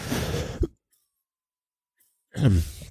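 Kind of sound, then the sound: human body sound, coughing fit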